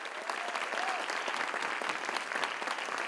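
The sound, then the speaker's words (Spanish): Sustained audience applause, a dense wash of many hands clapping at a steady, even loudness for a few seconds with a faint whistle rising through it, for the company and unseen crew of the stage show La Jaula de las Locas, before a performance. “A nombre de esta compañía maravillosa que hace La Jaula de las Locas y a nombre de todas las personas que ustedes no ven, que están enfrente y que están atrás, para las que pido un aplauso fuerte, por favor.”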